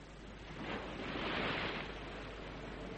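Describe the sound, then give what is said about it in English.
Sea waves wash onto the shore with a soft, steady rush that swells to a fuller surge midway, then settles back. No one speaks. “Her ladyship is in the garden at the far end of it, overlooking the sea.”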